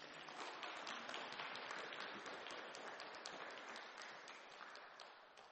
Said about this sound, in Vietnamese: Người ta nói rằng lần thứ hai thì nhờ tiếng Pháp, ca sĩ hát hay thì nhờ tiếng vỗ tay, vỗ tay đi.